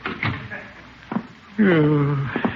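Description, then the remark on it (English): A door is opened for someone leaving: a couple of knocks and clicks, then a long, drawn-out creak of hinges swinging open, ending with a soft thump as it settles. “And I'll open the door for you.”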